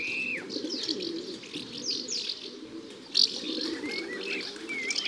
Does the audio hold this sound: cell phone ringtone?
no